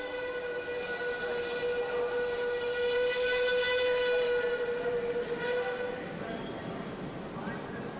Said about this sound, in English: It's late evening by the time you arrive at the Anhalter Bahnhof, a stately old 19th-century train station. It was the largest in the world when opened by Bismarck and the Kaiser Wilhelm I.